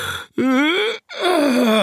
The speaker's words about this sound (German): Er gähnte herzhaft.